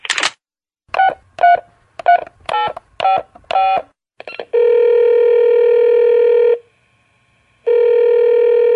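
A quick run of about seven touch-tone beeps as a telephone number is dialed, followed by long, steady ringback tones with a pause between them. Loud, with no voices.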